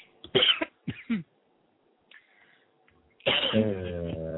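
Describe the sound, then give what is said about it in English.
A sharp sneeze in two quick explosive bursts, followed by a brief quiet pause before someone starts speaking. “bless you. Thank you.”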